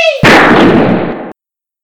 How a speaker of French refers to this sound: Un agent tire sur la servante à la fenêtre de gauche. L'autre agent tire sur la mère à la fenêtre de droite.